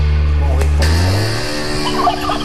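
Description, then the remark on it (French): Loud hens clucking and cackling while laying eggs, in a continuous burst with a warbling, almost gobbling quality that shifts in pitch, heard alone without any voices, at the end of a song. “mais à la fin, ce sont de vraies poules qui pondent.”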